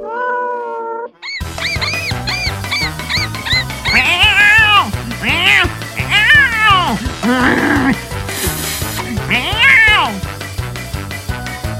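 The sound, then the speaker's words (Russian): A cat meows over and over in loud, drawn-out cries, several overlapping in quick succession, with a steady musical backing underneath and a brief burst of noise near the end. “Вот вышла кошка на охоту.”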